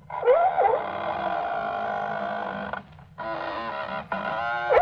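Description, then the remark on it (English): Squeaking oars of a Roman galley, a sound effect of oars in the thole pins made with a squeaking door and two leather squeak boxes: three drawn-out, reedy creaks with rich overtones. The first is long and bends in pitch at its start, followed by two shorter squeaks after a brief gap, with no voices. “These squeaks are the sounds of the oars in the thole pins.”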